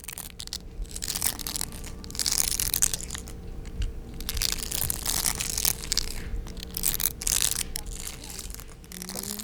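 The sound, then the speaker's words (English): A steady stream of dry, crackly crunching and rustling, dense and textured, rising and falling in bursts over several seconds without any voices: hungry larvae of Osuzumebachi hornets crunching inside their nest. “In their nest, they make this beautiful crunching sound.”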